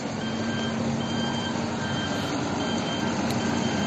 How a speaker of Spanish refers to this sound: A pocos metros, la maquinaria trabaja intensamente para limpiar las calles.